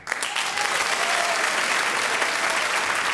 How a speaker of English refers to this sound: Graham Norton, with that last little flourish, Ross Noble and Tony Hawkes all finished equal in second place. Round of applause for the three of them.